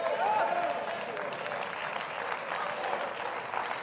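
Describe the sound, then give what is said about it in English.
A crowd claps steadily for several seconds, a dense, even wash of many hands, with a faint raised voice or cheer rising briefly near the start. “Do you know why I clap my hands?”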